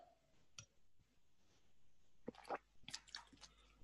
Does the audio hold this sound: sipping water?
yes